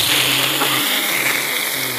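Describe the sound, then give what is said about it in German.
A voice imitates a coffee machine grinding coffee beans: a loud, steady, harsh whirring roar with a low motor hum underneath, held continuously for about two seconds with no talking. “ich finde die Kaffeemaschine nervig. Also es riecht zwar lecker, aber es ist einfach unfassbar laut, wenn dieser Kaffee gemahlen wird.”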